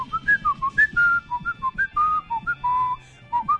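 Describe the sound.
A person whistles a quick, bouncy tune imitating the melody a pet cockatiel sang nonstop for about 10 years: a string of about fifteen short, clear notes hopping up and down in pitch, with faint low background noise.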